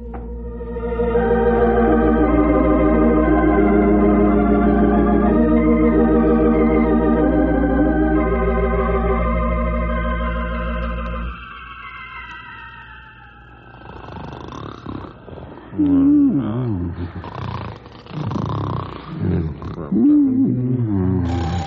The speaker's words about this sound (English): Shut off alarm. Why didn't you tell me it was just this old burglar alarm, Grey Wolf? Sounded to me like the 400 was going by.